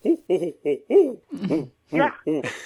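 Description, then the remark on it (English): A human voice imitates an owl, giving a series of about seven short, breathy hoots in a steady rhythm, fairly loud, with the final few calls rising and rougher. “I do a terrible owl imitation, but I have been out on the edges of places when an owl is calling out in the distance, and I'll cup my hands and go, and I've had them respond.”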